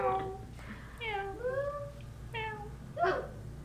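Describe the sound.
A voice imitates a cat, letting out around four drawn-out, rising and falling meows in quick succession over a low background rumble.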